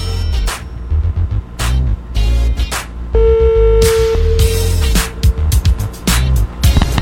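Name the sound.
telephone ringback tone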